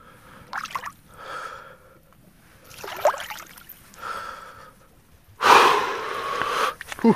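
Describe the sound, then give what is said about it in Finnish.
Heavy, deliberate breaths rasp in and out from a person immersed in cold water close to zero degrees, several in a slow rhythm, ending in a loud, drawn-out gasping exhale, with faint water sloshing underneath. “Keskitytään tähän hengittämiseen, niin ei tunnu tää vesikään niin kylmältä silloin.”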